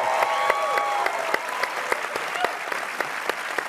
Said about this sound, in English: And by the way, I have it on some authority that Chris is watching this right now, so we should just say hi to Chris. Everybody, a big clap for Chris. Hi, Chris.